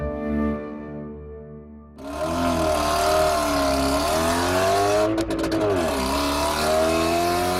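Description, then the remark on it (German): A car engine idles low, then roars up loudly and drives off, its pitch rising and dipping as it revs, with a rough motor sound throughout. “Mit dem Auto.”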